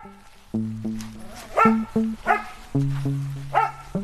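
Packs of free-roaming dogs living on the edge of a small village bark repeatedly, sharp overlapping barks and yips coming in irregular bursts over a low, sustained growling tone, with no one talking.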